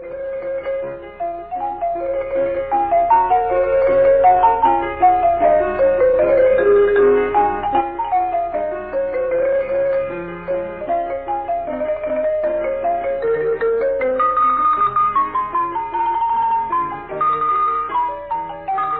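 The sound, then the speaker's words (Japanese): A marimba melody played by a female marimbist plays steadily for the whole stretch, its mallet strikes bright and clear over a soft low piano accompaniment, at a full, even level with no voices, on the Japanese-language broadcast of radio station HCJB, Voice of the Andes. “マリンバの調べを終わります。”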